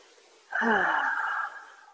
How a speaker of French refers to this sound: Et puis je vais faire résonner le petit carillon 3 fois.